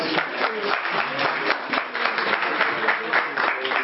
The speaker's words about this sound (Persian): خب نمیان، شما یه تشویقش کنید.